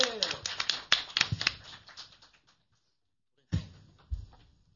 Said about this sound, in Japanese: 皆さん、もう一度拍手よろしく。